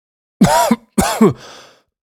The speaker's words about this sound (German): Außerdem habe ich Husten.